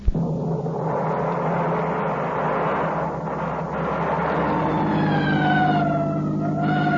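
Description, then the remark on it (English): A steady low vehicle rumble fills the scene, then an emergency siren wails in over it, its pitch sliding down and back up in long sweeps, loud, with no talking. “Well, why the siren?”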